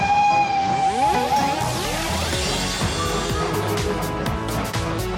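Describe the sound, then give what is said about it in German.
A steady, shrill train whistle sounds at the start, then gives way to a dense wash of sliding, shifting tones and low rumbling with faint clicks, like a train pulling away. No voices. “Aber jetzt fährt der Zug erstmal ab.”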